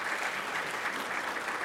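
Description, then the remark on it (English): An audience applauding steadily for a priest who delivered a sermon, a dense wash of many hands clapping at an even, sustained level with no voices on top. “And please do applaud.”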